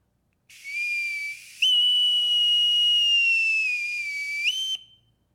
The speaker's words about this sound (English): See the ship lying there just offshore, puffing her sails. There gloom the dark, broad seas, ready to take you. Hear the bosun's whistle on that ship as of a silver trumpet calling to you, "All aboard!"